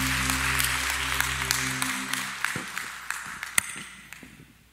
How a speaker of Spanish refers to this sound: Aleluya, dar un aplauso al Rey de Reyes y Señor de Señores. Gloria a Dios.